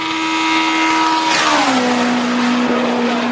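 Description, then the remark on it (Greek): A loud, continuous roar of a high-powered dragster racing car engine (685 horsepower, 7,900 cc, Edelbrock carburettor), holding steady and then dropping in pitch as it shifts or passes by, with harsh, gritty overtones and no talking. “Έτσι, 7.900 κυβικά εκατοστά, μετά από τις παρεμβάσεις που έκανα με το μηχανικό μου, 4-wheel disc brakes, posi rear end, Όσοι ξέρουν, Edelbrock Carburateur ήταν ένα αυτοκίνητο που έτρεχα στους αγώνες, Dragster.”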